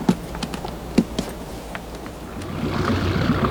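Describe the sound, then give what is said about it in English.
A low, steady hum from a motor launch's engine runs under a scatter of sharp knocks and taps, then a rushing wash of water swells and grows louder toward the end as the launch moves through the water, nearly in to shore. “Nearly in, sir. Cut the engine.”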